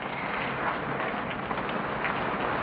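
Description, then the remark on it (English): Steady morning rain falls in a continuous, even hiss with no breaks or distinct drops standing out. It sounds fairly soft, with no voices. “He sits up, hearing the rain, and hurries to the window.”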